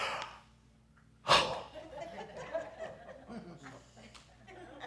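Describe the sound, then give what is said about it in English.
A long, drawn-out yawn: a sudden breathy intake of air, then a wavering, whiny vocal exhale that slowly trails off over a few seconds. “I wish I could yawn like that.”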